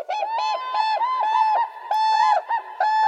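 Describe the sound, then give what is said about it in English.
A whooping crane, the tallest flying bird in North America at nearly 5 feet tall, calls loudly, a series of bugling, trumpet-like honks repeated in a steady rhythm, with no other voices. “Standing nearly 5 feet tall, the whooping crane is the tallest flying bird in North America.”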